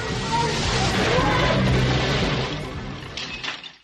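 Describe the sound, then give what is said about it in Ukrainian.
A car, out of control after its tyres are shot at, crashes and rolls over: a loud, dense roar of grinding, scraping metal for about two seconds, then it fades, with a few scattered clattering impacts as it settles. “Машина перекинулась, а ви живі?”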